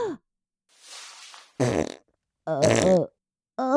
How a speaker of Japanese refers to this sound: ああ、思わずおならが。ああ、そうよね、ロングスカートの中おなら臭が充満してきついのよね。